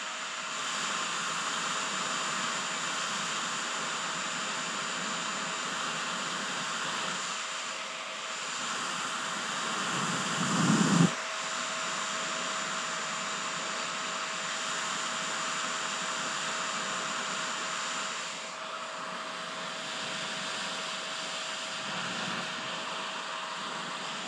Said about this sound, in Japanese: さて、こうやってね、手ぐしで風の通り道を作ってやるとよ。そしたらちゃんと頭皮までドライヤーの風が届くて手ぐしの気持ちよさも合わさって気持ちよかろう。